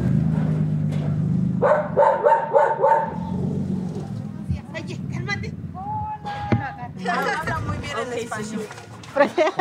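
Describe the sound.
Dogs bark in short, excited bursts in welcome as visitors arrive at a house with a gated dirt yard in Lomas de Poleo, mixed with lively chatter and high-pitched neighborhood children's voices in a busy, noisy outdoor scene.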